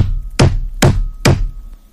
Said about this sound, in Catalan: Ara sí que han tocat de veres, Ernest. Ves a veure qui hi ha.